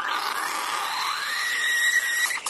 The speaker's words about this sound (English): Well, what is that anyway? Is that, Phil, that's an espresso machine. Okay, it's an espresso machine.